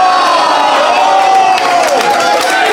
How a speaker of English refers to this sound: Skylights gets a cheer! I win!